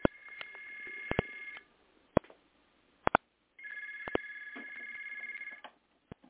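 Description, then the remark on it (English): A telephone rings in two long bursts of bright, warbling trill with a short gap between, plus a few sharp clicks, with no talking. “I'm on the phone right now. You'll have to call me back, okay?”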